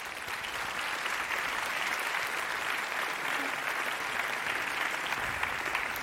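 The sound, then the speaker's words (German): An audience applauds steadily, a dense, even wash of clapping hands that holds at a constant loudness for about six seconds with no voices standing out, applauding two speakers. “Und ich wünsche euch jetzt ganz viel Spaß und einen herzlichen Applaus für unsere beiden Speakerinnen.”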